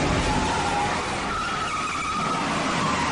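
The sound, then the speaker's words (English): Tires squeal and skid loudly as a car tears through a chase on real streets, darting around real cars and people, with only four blocks cordoned off. A wavering high screech rides over continuous roaring engine and road noise, sustained throughout. “this is arguably one of the greatest car chases of all time”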